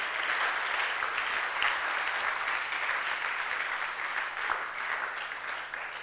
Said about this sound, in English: I think you must clap.